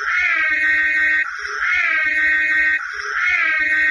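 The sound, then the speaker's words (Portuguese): A Cadillac Miller-Meteor ambulance siren, from the car known as the Ecto-1 in the film Ghostbusters, wails in repeating cycles. Its loud, harmonic tone sweeps up and down about every second and a half, with no voices. “Então talvez você conheça a buzina dele, ou melhor dizendo, a sirene dele.”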